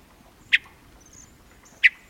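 hermit thrush call notes

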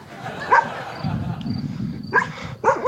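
dogs barking and yipping

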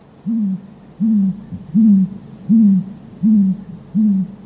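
owl hooting

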